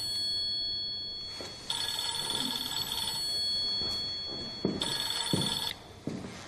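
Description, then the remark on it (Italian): A telephone rings in two bright, trilling bursts separated by a pause, with faint room noise and soft thumps in between and no one speaking. “partiamo col primo pezzo, la telefonata incriminata.”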